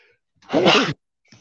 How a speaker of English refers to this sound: 2 seconds, I'm going to sneeze.